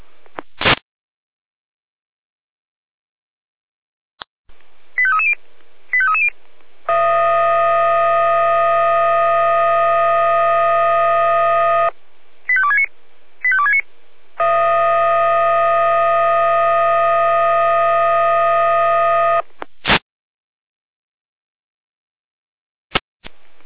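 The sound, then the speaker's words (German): Electronic fire brigade alarm dispatch tones from the Jena control centre (Leitstelle Jena), alerting units to a tree threatening to fall onto a road in Osmaritz: short chirping blips followed by a long, steady, buzzy alert tone, repeated twice, each tone lasting about five seconds, loud and with no voices. “Jena mit Alarmruf.”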